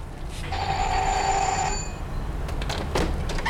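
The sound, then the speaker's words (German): A house doorbell gives one long, steady ring lasting about a second and a half, bright and buzzy over a low rumbling background, followed by a few soft rustling clatters. “Klingel mal.”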